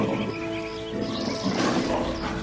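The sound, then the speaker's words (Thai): A lion roars loudly from a rocky cliff ledge, a deep rumbling growl that swells and rasps for a couple of seconds, with no voices present. “ราชสีวิ่งสู่ชะง่อนผาแผดเสียงคำรามอย่างน่าเกรงขามแล้วกระโจนลงไปจัดการกับเหยื่อด้วยอำนาจราชสีอย่างง่ายดาย”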